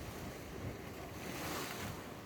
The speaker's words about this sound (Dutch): En je hoort ook de zee bij Playa de Ingles, La Gomera. De zee bij Playa de Ingles.